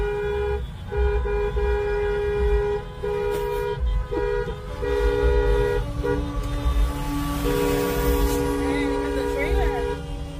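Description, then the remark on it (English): A semi-truck's air horn blares again and again in long, loud, low-pitched blasts broken by short gaps, over a steady rumble of traffic with faint voices underneath. “Semi-truck.”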